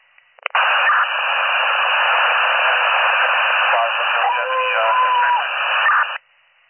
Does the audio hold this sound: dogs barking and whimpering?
no